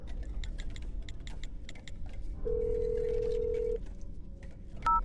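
telephone being dialed

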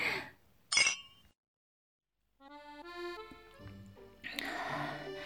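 glasses clinking

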